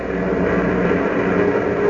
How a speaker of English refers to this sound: As we continue now, a huge clipper plane is thundering over the Atlantic toward Lisbon, Portugal.